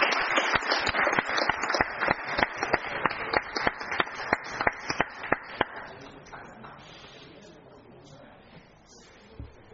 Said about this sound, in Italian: Direi che possiamo di nuovo fare un applauso, perché è veramente una cosa molto importante per Savigliano.